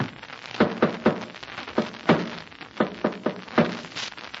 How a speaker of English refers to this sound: Then listen to this. I'm going to tap against the wall using the Morse code. Listen.